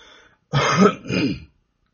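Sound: cough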